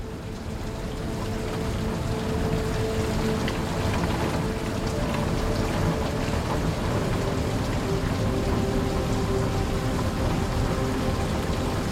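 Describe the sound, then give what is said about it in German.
Steady rain patters densely and evenly on a surface, a continuous wash of raindrops with a low rumbling undertone and no voices. “Das gleichmäßige Prasseln der Regentropfen macht dich schläfrig.”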